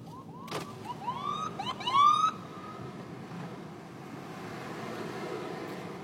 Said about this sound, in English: ambulance coming through.